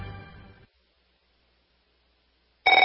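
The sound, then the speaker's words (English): A telephone rings in two loud, buzzy bursts, the first trailing off before a two-second silence and the second starting sharply at the end, with no voices. “If fear strikes your heart when the phone rings knowing it may be another bill collector”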